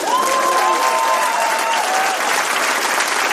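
An audience at a Hennes Bender show in Essen, recorded on 24 February 2010, bursts into loud, sustained applause, dense clapping filling the whole stretch, with a faint whistle gliding through near the start.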